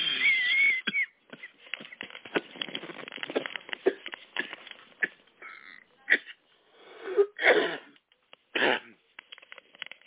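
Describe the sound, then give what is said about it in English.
A person coughs repeatedly over a muffled, phone-quality line, with scattered small coughs and throat-clearing sounds building to a few louder, harsher bursts near the end. No one speaks. “I had a, a cough, so I apologize if you're wondering what's going on.”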